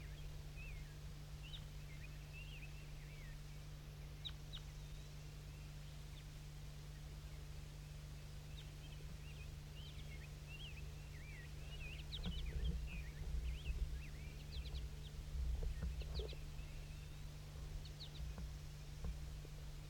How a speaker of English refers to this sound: Stop. Start recording the wild birds again. I think there's some more wild ones flying around somewhere.